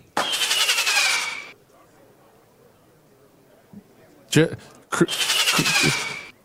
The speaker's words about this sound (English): He didn't actually say the fireworks sound that I just played. That was supposed to be Joe Biden in an interview talking about how he resigned if it was for medical reasons. But you know what? Now that I think about it, I like the fireworks.